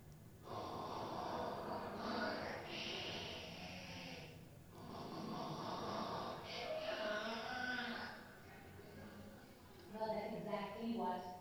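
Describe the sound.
A voice imitates loud snoring: long, rasping, snorting breaths drawn out in a few heavy bursts, loud, ending in a throatier, voiced rumble.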